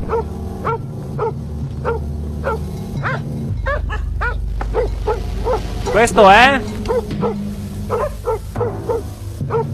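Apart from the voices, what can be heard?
dog barking and whimpering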